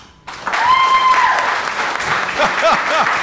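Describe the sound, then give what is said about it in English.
An audience breaks into sudden, sustained applause to signal support for President Trump being impeached by the Democratic House, with a brief whistle early on and a few scattered voices calling out near the end. “Signal by applauding.”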